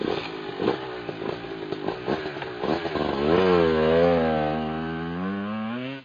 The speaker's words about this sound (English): I climb my old red motorcycle, kickstarting it.